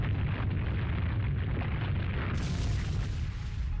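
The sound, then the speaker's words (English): A deep, continuous rumbling roar of the Earthquake move used by the creature Leonidor against Foe Landrick in a video game battle, heavy low-end booming that holds steady and loud throughout with a harsh crackling texture layered on top. “Choose a move. Earthquake.”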